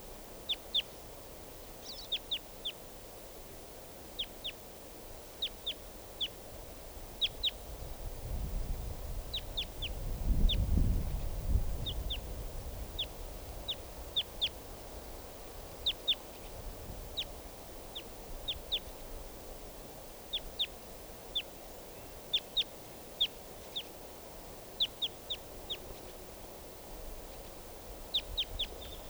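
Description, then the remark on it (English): Calls of a lone type 2 wild bird: short, high-pitched chirps repeated in loose, steady bursts for the whole stretch over a faint hiss, with a brief low rumble swelling and fading midway. “And so there's a lone type 2 bird.”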